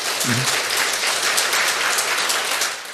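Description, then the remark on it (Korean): A crowd applauds steadily for about three seconds, a dense wash of many hands clapping at once that fades slightly at the end, with a brief low voice murmur near the start. “네, 네, 박수 한번 치시고.”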